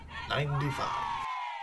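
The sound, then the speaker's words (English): A brief recorded crowd cheer from a balloon-shaped keyring sound machine, a group of voices shouting a hip hip hooray in one short, loud burst with a drawn-out final shout that trails off. “This cool balloon-shaped keyring produces four fun party sound effects. Set off the party horns or cheer along to the hip hip hooray.”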